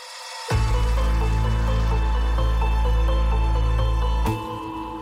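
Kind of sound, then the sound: nature, rain intensifying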